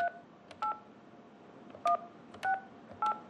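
A series of touch-tone beeps as a phone number is keyed in to call a contractor, five short dual-pitched tones at uneven intervals over a low background hiss, with no voices.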